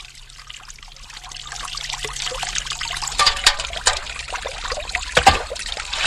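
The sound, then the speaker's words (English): Mountain water coming off the eastern side of a high cliff trickles and pours steadily, a splashing flow that grows busier and louder partway through, with bright gurgles and spatters and no voices. “you're getting the water, actually, from the mountain.”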